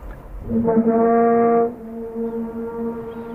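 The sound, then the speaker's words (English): Whale calls recorded in a bay once it went quiet: one long, low, horn-like moan with rich harmonics, loud for about a second, then holding its pitch more softly until the end, with no voices. “The whales keep making the sound, and finally the bay gets quiet, and they're still doing it.”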